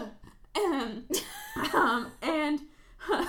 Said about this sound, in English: cough.